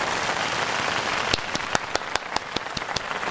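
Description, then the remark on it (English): An applause sound effect played to wrap up a first show on radio station CKUW 95.9: a steady, rain-like wash of clapping, then about nine sharp, evenly spaced claps snap out over it in a quick, regular rhythm. No one speaks. “Or maybe let's have some applause. Let's go for some applause.”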